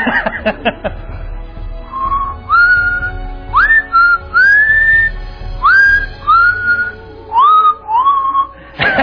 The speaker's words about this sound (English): He said, but I can whistle. I said, well, come on down. And he got up there and just started whistling.